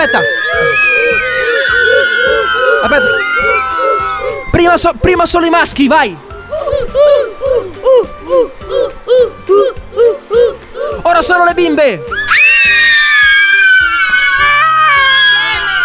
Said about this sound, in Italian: Grazie mille a questa classe. Un po' di tifo.